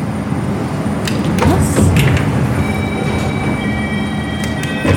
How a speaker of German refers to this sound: So, jetzt geht's los. Die Bahn verlässt das Gelände. Wie schnell darf man hier drin fahren? 10 km/h. Jetzt geht das Tor auf.